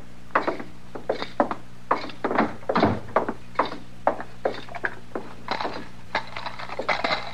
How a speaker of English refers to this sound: My gracious, Mr. Dillon, look at that clutch of keys. He sure does use a lot more than we do back home.